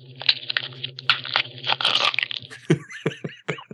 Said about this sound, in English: He's eating a cookie. He's slurping on a cookie.